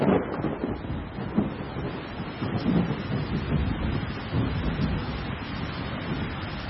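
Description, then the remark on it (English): Steady rain pours down during a thunderstorm, a dense hiss with a deep, low rumble of thunder rolling underneath the whole time. No one speaks. “So if we think of the thunderstorms and the stormwater drainage infrastructure”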